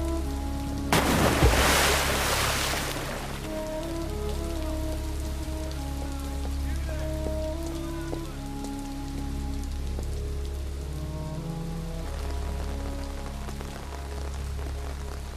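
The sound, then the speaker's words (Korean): Heavy rain pours down steadily in the final sea scene of the film The Shape of Water, a dense continuous hiss with a brief louder surge near the start, while a soft, slow melodic tune plays faintly underneath. “세차게 비가 쏟아지던 날 깊은 바닷속으로 빠져들고 있는 그와 엘라이자.”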